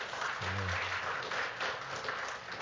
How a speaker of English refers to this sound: Come on, bless the Lord with a hand clap of praise.